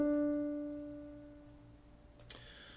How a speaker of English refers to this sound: Next topic is the crickets go crickety crick crick. That cricket's a robot too. Fucking robot crickets.